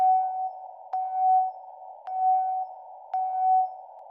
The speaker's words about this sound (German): Also zum Beispiel der Anfang ist dieser Morse-Nachricht.